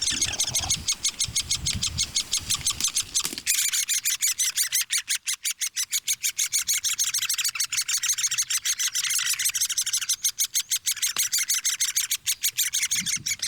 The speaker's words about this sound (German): Die sitzen aber so in ihrer Höhle drin, dass die wenig mitbekommen von dem, was da draußen abgeht und sich deswegen nicht stören lassen. Außer, dass die Bettelrufe lauter werden. Also, ich stehe hier auf Augenhöhe, ist die Höhle in einer Eiche.